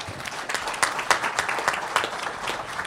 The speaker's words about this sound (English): Wonderful service. Let's give him a big hand.